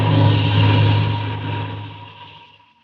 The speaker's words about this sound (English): Well, who is the pilot of the mysterious plane landing in that lonely spot at 2 o'clock in the morning?